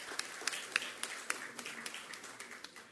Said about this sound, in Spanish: Recibe el certificado Fábricas Nacionales de Cerveza. Recibimos a sus representantes también con un aplauso, celebrando lo que están haciendo ahí también.